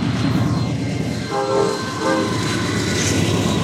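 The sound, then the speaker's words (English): A Norfolk Southern freight train roars past on the main line, a dense steady rumble of wheels on rails with a brief horn-like tone rising over the noise midway, all loud and continuous with no talking. “The train barrels through just like it used to when William Moore pulled his wagon down this road.”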